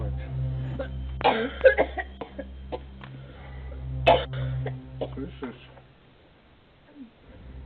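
A woman, filmed on camera footage, coughs in harsh, strained bursts, sounding almost suffocated, with gasping breaths between fits over a steady low hum.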